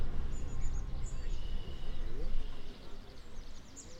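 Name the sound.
red-winged blackbird calls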